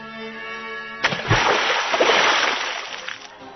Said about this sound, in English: The trip itself took less time than my journey to the moon, and I landed softly this time, in a large rectangular pool of water, one of many in that region of the sun, or so it appeared as I descended.